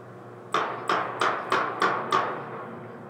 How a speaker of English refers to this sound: Now that audio sounds like a gunshot because this is already screened by ShotSpotter before it comes to us. Recordings of potential gunfire are routed to analysts in California who confirm the sounds and alert Columbus officers to their location.